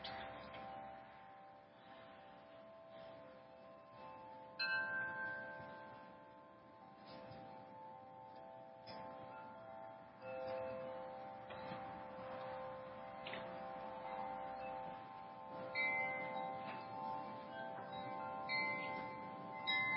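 Wind chimes outside, heard through an opened window, ring steadily in a breeze, layered metallic tones sustaining and overlapping, with brighter clinks scattered irregularly throughout; no one speaks.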